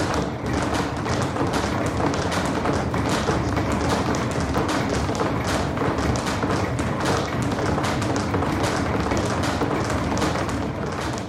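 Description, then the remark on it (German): A dense, steady stream of sharp taps and dull thuds, like many hands clapping and feet stomping on a floor in a loose rhythm, sustained at an even, fairly loud level with no voices; a sound installation by French sound artist Felix Blume in Donaueschingen. “Hört sich ein bisschen an wie Klatschen und mit den Füßen irgendwo auf dem Boden im Rhythmus schlagen.”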